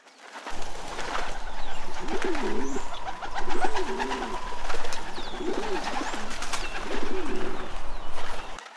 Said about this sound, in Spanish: Por encima de sus cabezas, sobre unos listones, un centenar de palomas que parecían dormir se revolvieron con la llegada de las niñas.